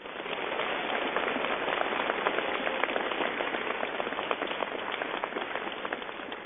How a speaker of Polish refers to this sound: Podziękujmy im gorącymi oklaskami.